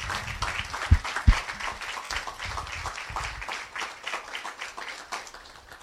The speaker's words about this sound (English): Yeah, let's give them a round of applause as well.